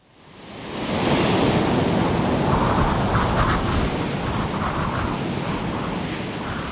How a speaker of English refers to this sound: The storm hurled itself at us. Its savage teeth whipped the waves white and sent the spume over our decks, screaming and raging and snarling.